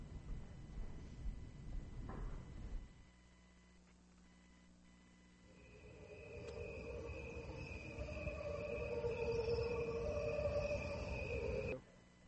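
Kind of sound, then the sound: insect, crickets chirping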